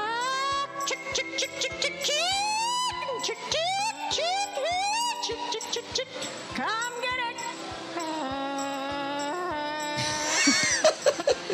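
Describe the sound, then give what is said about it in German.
A contestant at a chicken-calling contest imitates chicken calls with a rapid string of loud, squawking vocal bursts whose pitch swoops up and down, over a steady low thumping beat underneath. “Und den Hühnerrufwettbewerb lasse ich euch natürlich nicht entgehen, da hören wir mal rein.”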